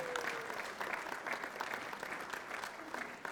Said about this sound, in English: They also, yes, you can clap.